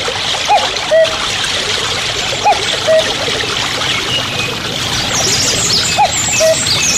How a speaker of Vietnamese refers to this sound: Ở nơi đó con sông đột nhiên thay đổi, biến thành một thác nước lớn, rồi đổ xuống ầm ầm.